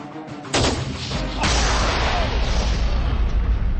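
A sharp rifle gunshot crack, from two shooters firing at the same time, is followed a second later by a loud, deep boom as a Tannerite charge explodes, rolling on into a long, rumbling outdoor echo.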